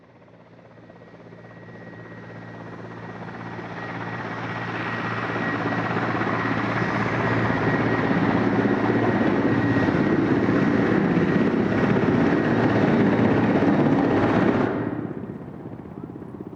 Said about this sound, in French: Et à mon avis, cette maquette est incroyablement réaliste. Elle semble être un vrai avion miniature.